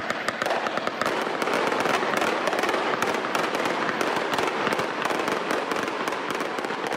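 A steady barrage of fireworks closing the annual August summer festival in Dubrovnik, Croatia, with rapid overlapping bangs and crackles packed densely together, loud and continuous for the whole stretch with no pauses and no voices.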